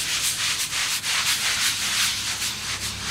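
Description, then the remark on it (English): Steady abrasive scrubbing of a water-soaked stone against brick, a harsh gritty rasp repeating in quick back-and-forth strokes at an even rhythm, fairly loud with no talking. “And then scrub.”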